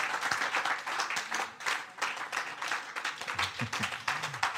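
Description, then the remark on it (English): A crowd applauding at the close of a church service, many hands clapping in a dense, steady patter that stays fairly loud throughout, with a few faint voices murmuring underneath. “Oh, are you clapping or you were trying to clap?”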